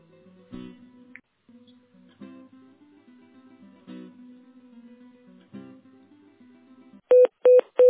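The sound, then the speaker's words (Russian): A steady low telephone tone hums for several seconds, broken by soft periodic clicks, then three short, loud, evenly spaced dialing beeps finish it off as someone tries to connect a call. No one speaks. “Сейчас, секундочку, попробую соединить.”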